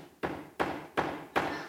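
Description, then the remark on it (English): Four evenly spaced hammer blows drive a nail into a church door, each a sharp, solid knock with a short ring-out, with no talking. “So for the next 5 Sundays, we're going to nail the 5 solas to the door.”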